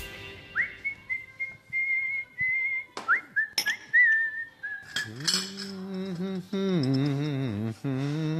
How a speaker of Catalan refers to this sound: sempre xiula, sempre canta.